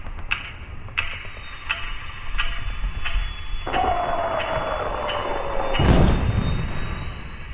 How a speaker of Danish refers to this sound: Hver gang du hører cirka 10 slag på metronomen, er der en et sted i den her by, som dør.